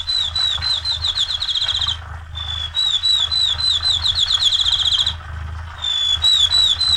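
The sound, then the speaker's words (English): A field sparrow sings three bouts of clear, high whistled notes, each run repeating quickly in a steady trill, over a low constant rumble. “And then the little field sparrow is another one we can fix in mind.”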